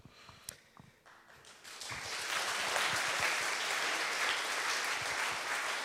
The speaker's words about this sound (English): And yeah, you gave the first round of applause already, but I think you should do another one, and it should go out to you and thanking yourself for being part of SIGINT.